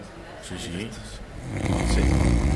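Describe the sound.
A person imitates another person's loud snoring: a short voiced, wavering sound, then a rough, rattling snore-like rumble that swells and holds.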